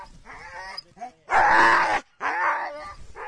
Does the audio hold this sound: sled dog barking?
yes